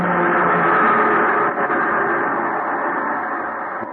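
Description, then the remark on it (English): A PE electric train going by: a loud, steady rumbling roar that fills the whole clip and eases off slightly toward the end, with no voices. “The PE train going by.”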